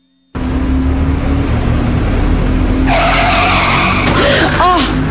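A loud car engine roars steadily, then sharp, high tire squeals cut in and wail for a couple of seconds, with a few swooping screeches near the end, as a car crashes.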